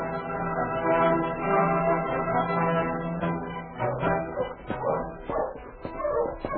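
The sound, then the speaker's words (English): A husky dog barks and yips excitedly, mixing short sharp barks with high whimpering whines in a restless, uneven run. “Hello, you husky! What is it, Happy? Found him, fella?”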